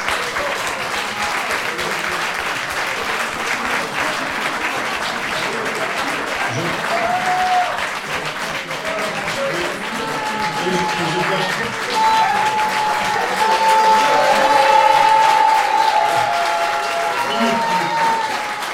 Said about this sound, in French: et là, ils ne peuvent pas s'applaudir eux-mêmes, mais tous les autres peuvent les applaudir parce que c'est une équipe formidable.